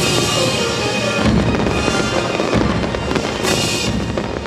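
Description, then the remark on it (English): Loud fireworks explode over Edinburgh, Scotland, at the close of the city's annual festival, in a dense, continuous barrage, with overlapping booms and crackling bursts filling the air and a few sharper blasts standing out. No one speaks. “The fireworks light up the sky above Edinburgh as the city's annual festival comes to a close.”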